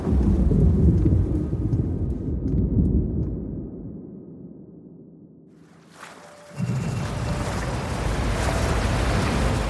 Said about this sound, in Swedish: Men samtidigt, på andra sidan Atlanten, har ett oväder börjat samla sig. En storm som rör sig österut över havet, rakt mot Fastnet Race.